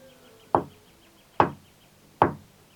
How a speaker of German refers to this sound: Sie fanden auch ganz richtig um die Ecke das winzige Haus, umrankt von seltenen Blumen, die betäubend dufteten. Sie klopften dreimal an.